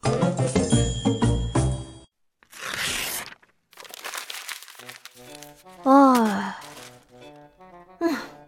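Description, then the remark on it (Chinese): A child at a desk tears a drawing off and crumples the paper into a ball to throw away: noisy crinkling and crumpling for a couple of seconds, then a short rough burst like a rip, followed by wordless vocal sighs and groans. “淘淘趴在书桌上，不停地用笔在纸上画着画，可没画几笔，他就把纸撕下来，团成了一个纸团扔掉，反反复复好多次。”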